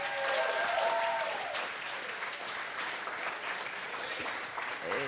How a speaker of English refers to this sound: The MCs, let's just get a huge round of applause. You guys have been phenomenal.